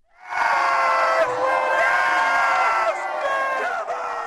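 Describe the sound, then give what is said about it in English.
The winner of the World Championship of Rock, Paper, Scissors in Toronto cheers with the crowd, shouting loudly and continuously, with overlapping high excited voices and whoops sustained for several seconds without a break. “And if you think this is a joke, just listen to the joy of the winner.”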